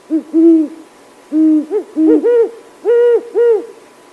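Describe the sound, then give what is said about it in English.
A series of mellow, deep hoots from a huge owl with pointy, ear-like tufts, heard at night, in a rhythmic pattern with some notes doubled and short pauses between phrases, clear against a quiet background. “At night, listen for these mellow hoots.”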